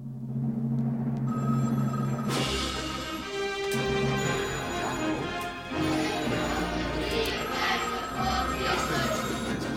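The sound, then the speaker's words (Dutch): An old-style telephone bell rings loudly and insistently, its metallic clangor swelling in after a couple of seconds and continuing unbroken to the end, unanswered. “Zou iemand misschien even de telefoon aan kunnen nemen?”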